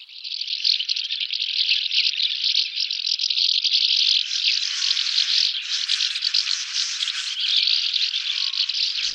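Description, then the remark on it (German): A dense, continuous chorus of dry, buzzy twittering from a flock of sand martins, many overlapping calls blending into a steady chattering mass that swells slightly louder midway, with no voices. “Gibt es dieses schöne Geräusch und dieses Durcheinander von Uferschwalben.”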